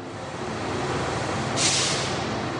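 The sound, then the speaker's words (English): A bus carrying 40 teenagers idles with a steady low rumble as it arrives and parks outside a football club, then a sharp, loud hiss of air brakes bursts out near the end. “A bus of 40 teens arrives and parks outside the football club.”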